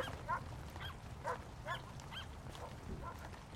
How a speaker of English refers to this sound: Soon, another neighbor appears, walking a bigger dog. This dog has a sparkly collar that glitters in the rain. The two dogs bark hello to one another as they pass.